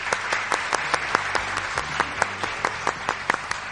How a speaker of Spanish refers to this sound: Nos damos un aplauso por los éxitos conseguidos, por los que van a conseguir y bueno, y por esta reunión tan chula que hemos tenido. Venga, nos aplaudimos, ¿ok?